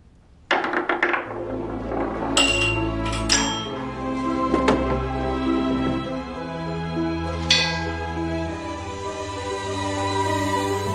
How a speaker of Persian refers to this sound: زنگ صدا داد.